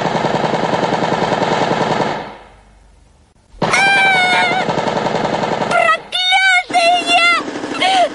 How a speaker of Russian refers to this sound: Пулемет забился в ее руке, словно хотел вырваться. Он бил в ладони, и его удары отдавались в плечах.